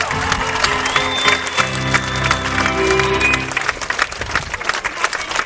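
A crowd claps steadily in a dense patter of applause, with sustained musical tones playing beneath it at first. The music stops partway through and the clapping continues alone.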